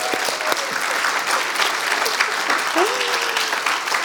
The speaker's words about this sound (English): Let's see how someone who's spent many years learning to play a violin does it. A big round of applause.